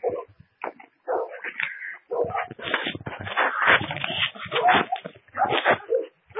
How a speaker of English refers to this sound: Better run, dog. You should have eaten him. Why are you talking? Why are you barking at me?